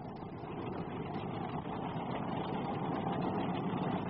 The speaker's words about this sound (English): And the cars then? Well, they sounded a little more like this.